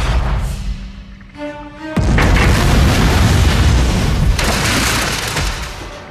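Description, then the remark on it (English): A humming sci-fi weapon tone with a brief pitched whine as a ship fires at an alien vessel's portside warp engine, then a sudden, loud explosion as the alien vessel is destroyed, a broad booming roar that rumbles on for several seconds. “Alien vessel has been destroyed, Captain.”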